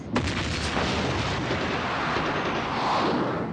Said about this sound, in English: Iraqis woke to the sound of an explosion every day.